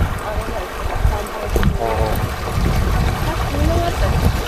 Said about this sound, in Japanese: 土井の川用水。え？綺麗な水だね。コンコンと流れてる。すごいね、 ここ。